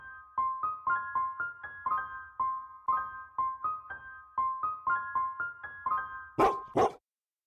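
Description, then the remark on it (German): Sled dogs (huskies) bark and yip in a quick, steady run of high, tonal calls, ending in two louder, harsher barks; no one speaks. “Wenn Sie schon einen Besuch auf einer Hundeschlittenfarm planen und eine Tour unternehmen, warum dann nicht auch gleich die Nacht mit den Huskies verbringen?”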